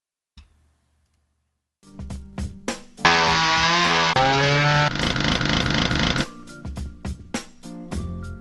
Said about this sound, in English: I got my chainsaw working.